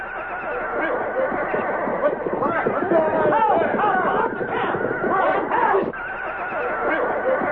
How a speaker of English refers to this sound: The night seemed peaceful. The horses seemed calm. The watch was changed regularly without incident. Each man seemed alert. Then along toward dawn, there was an uproar of noise from the horses.